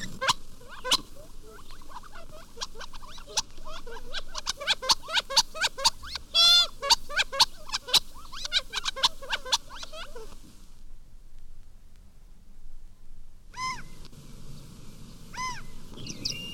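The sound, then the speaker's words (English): Gambel's quail call in a busy chorus of sharp clucks, chips and chattering notes, loud, then a brief hush before a few clear, drawn-out calls ring out again. “In the deserts of the Southwest, the gamble's quail is the favorite game bird.”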